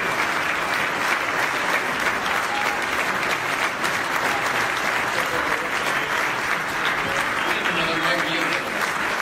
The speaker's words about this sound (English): When the movie was over, the crowd immediately stood up and applauded.